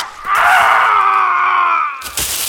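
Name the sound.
man screaming in pain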